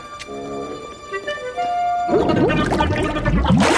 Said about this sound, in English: He sticks his head in a sink of water.